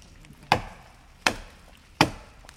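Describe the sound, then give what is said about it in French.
Three sharp, woody chops from a small forester's hatchet (a "flashy") striking a tree and removing a piece of bark, evenly spaced about three-quarters of a second apart, each a crisp crack with a quick decay, with no talking. The tool's other side bears a stamp with the initials AF, Administration des forêts. “On donne un coup de flashy, en fait, c'est une petite hache donc qui enlève un bout d'écorce.”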